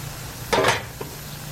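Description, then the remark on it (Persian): A short burst of crackling sizzle as wild rue (espand) seeds are poured onto the hot coals of a samovar, quickly fading, followed by one faint pop over a low steady hum. “عروس گلم بی زحمتی خود اسفند بریز تو سماور.”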